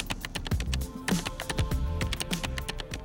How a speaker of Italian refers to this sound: Ecco, proverò a digitare il suo nome e data di nascita.